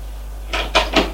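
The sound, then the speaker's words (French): A woman opens a door: a short sequence of three soft, scraping clunks in quick succession, like a handle turning and the door swinging, over a low steady hum with no voices. “Elle ouvre la porte.”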